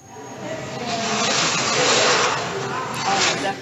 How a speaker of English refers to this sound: But first they needed an elephant. Zoo Atlanta was willing to help. The scientists presented an African elephant there with cubes of carrot, rutabaga, and potato, which the elephant hoovered up with ease, as you can hear.